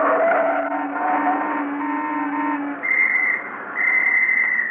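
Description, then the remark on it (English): A police officer's whistle gives two loud, sustained blasts, preceded by a steady droning tone like a car engine or horn that fades out just before the first blast. “Were you whistling at me, officer?”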